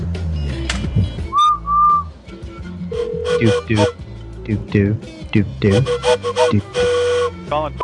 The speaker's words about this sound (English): I want to do some train whistle calls, so let's... I've only done one call so far. Let's call him back and just blow the whistle.